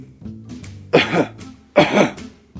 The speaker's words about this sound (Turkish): Tamam. Şimdi derin bir nefes alın. Öksürün.